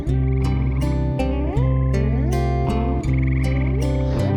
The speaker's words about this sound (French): D'autres grenouilles, des milliers, je crois, au pied des quenouilles, élèvent la voix. Et le wawaron grogne et leur répond.